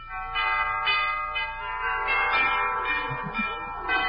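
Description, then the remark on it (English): An elaborate doorbell chime at the front door of an old colonial mansion rings out, its bright bell tones overlapping and sustaining for several seconds, loud with no voices. “It's a hunk of doorbell, isn't it?”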